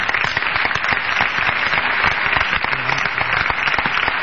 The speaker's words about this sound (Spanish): Aplaudamos también al equipo de producción. Al equipo de producción, señor,